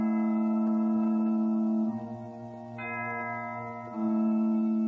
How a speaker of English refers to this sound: Just then, the church sounded its bell.